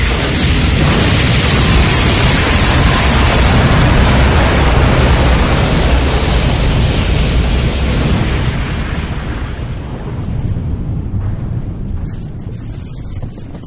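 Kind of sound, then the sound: sound effect, explosion blast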